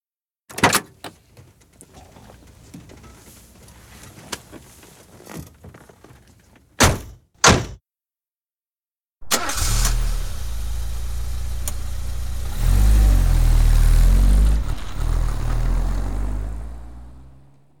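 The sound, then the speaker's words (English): Several car doors thud shut in quick succession as people get into the car, followed after a short pause by an engine starting and settling into a steady rumble that swells as it revs, with no voices. “Get in the car, everybody. Let's go.”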